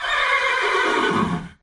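A single loud horse whinny, high and quavering, sliding downward over about a second and a half before cutting off abruptly. No voices or other sounds accompany it.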